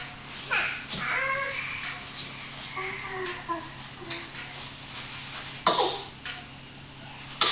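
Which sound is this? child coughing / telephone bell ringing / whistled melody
child coughing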